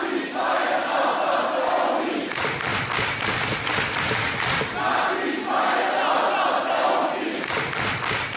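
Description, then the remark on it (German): Hundreds of students chant loudly in unison in a Hamburg university lecture hall in October 2019, shouting down Professor Bernd Lucke at his macroeconomics lecture, with rhythmic shouted phrases repeating in waves, mixed with crowd noise and bursts of clapping. “Das rufen hunderte Studierende im Oktober 2019 in einem Hamburger Hörsaal.”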